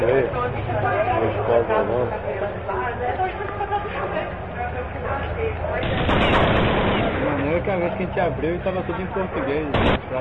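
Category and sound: sound effect, video game gunfire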